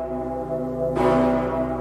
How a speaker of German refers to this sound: Allerdings hört man die Glocke eigentlich recht selten.